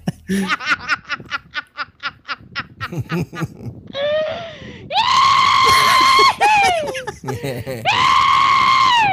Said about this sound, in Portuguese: Mas esse negócio de gritar depois de uma gargalhada boa e tal, é uma coisa que, assim, pelo menos por aqui é normal. Eu sou muito de fazer isso, assim.